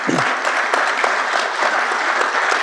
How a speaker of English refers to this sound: All right. Got a round of applause for Ara real quick.